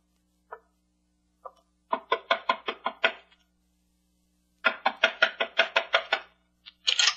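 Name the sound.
knocking on a door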